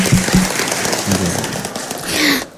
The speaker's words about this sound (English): Okay, thank you. Give applause for our friends from Akpol.